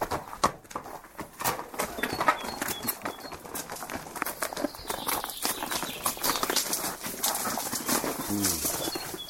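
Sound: horse hooves clip-clopping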